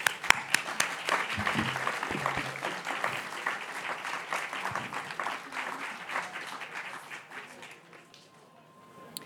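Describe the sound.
An audience applauds with dense, steady clapping and a few scattered voices underneath, holding fairly level before thinning out and fading away near the end.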